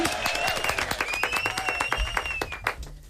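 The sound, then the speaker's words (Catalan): An audience breaks into steady applause after a student debate, many hands clapping in a dense, crackling patter that holds at a fairly even loudness throughout, with a few faint whistles or cheers drifting above it. “Un aplaudiment, molt bé.”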